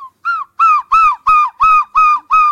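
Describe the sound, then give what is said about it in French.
A person mimics a herring gull, giving a rapid series of about seven loud, nasal, harmonic calls in a steady rhythm, with no talking. “Le goéland argenté.”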